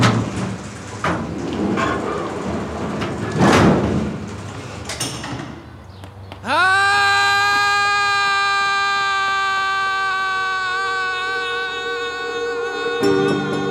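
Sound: garage door opening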